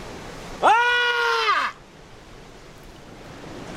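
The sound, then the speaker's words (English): A man on a beach lets out one loud, sustained yell lasting about a second, rising and then falling away, over a faint steady outdoor background hiss. “If you don't yell, I'm going to punch you in your stomach.”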